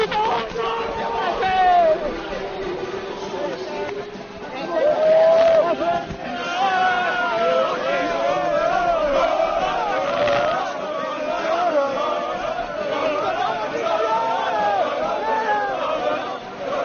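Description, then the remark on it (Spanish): The Deportivo Alavés football team shout and cheer together on the pitch at Mendizorroza, celebrating promotion to the Segunda División after playing Real Jaén, loud overlapping voices rising into chant-like yells and never letting up for the whole stretch. “estos son los gritos ininteligibles de el equipo del Deportivo Alavés que vuelve a segunda división”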